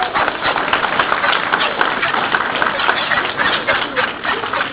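An audience claps steadily for several seconds, a dense, even patter of many hands with a muffled, dull tone and no clear pauses.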